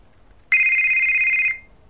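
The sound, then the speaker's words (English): A single loud electronic telephone ring, a steady bright tone with strong harmonics lasting about a second, starting abruptly and cutting off cleanly against a quiet background. “Oh, the phone's just rang.”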